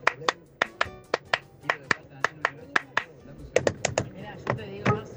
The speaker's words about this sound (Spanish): Estaban muy bien los aplausos.